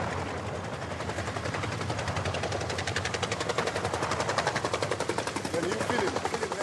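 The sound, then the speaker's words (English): Rapid bursts of automatic gunfire from real guns crackle continuously in a dense, rhythmic stream, loud, with a broad roaring background like a battlefield; faint voices may be mixed beneath. Real Ugandan troops stage a hypothetical assault on Israel's Golan Heights for a film, staged by Idi Amin. “Amin stages one of the film's most surreal moments, a full-scale, hypothetical assault on Israel's Golan Heights, using real Ugandan troops and real guns.”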